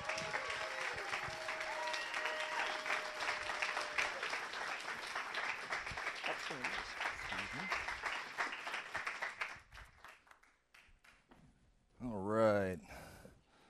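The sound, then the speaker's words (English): Steady audience applause welcoming a seminar speaker, a dense crackle of many hands, carries on for about nine seconds, then thins and dies out; after a short lull a single voice speaks briefly. “Hoping to get up here before all the applause died out, but I didn't make it.”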